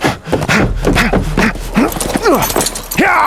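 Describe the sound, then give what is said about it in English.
A rider kicks a horse into a gallop and it speeds off, its hoofbeats thudding in a quick uneven rhythm, loud, with high whinnying or shouted calls mixed in over the pounding. “Ignoring the challenge, Collins kicked the horse into a gallop.”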